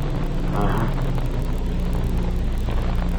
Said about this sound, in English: Hold it. Car coming in.